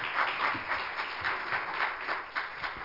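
A crowd claps steadily together as a hand clap of praise to the Lord, a dense wash of many hands with a slight pulsing rhythm, continuous for a few seconds with no voices over it.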